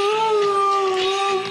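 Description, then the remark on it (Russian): A dog lets out a sustained, steady howl-like vocalization with a clear pitched tone, fairly loud, shaped almost like a drawn-out human word as it imitates human speech such as "Obama" and "hello". “Ну вот, на самом деле она не хочет ничего этого сказать, она просто подражает звукам, она научилась подражать.”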